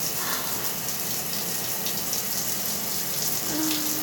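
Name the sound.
shower water running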